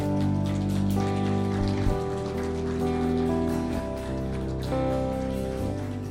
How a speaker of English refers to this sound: And please, put your hands together for the kids as they come along. Well done, kids. Thank you. That's good. Come on, keep clapping for the kids.